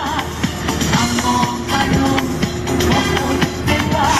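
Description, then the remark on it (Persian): Loud, continuous music blares from a car stereo speaker, recorded by holding a recorder in front of the car's speaker, with steady sustained tones and regular percussive beats filling the whole stretch, with no one talking over it. “این موزیک از تو کامپیوتر من پخش نمیشه، به خدا میکس نکردم، ضبط همو گرفتم جلوی این بلندی ماشین.”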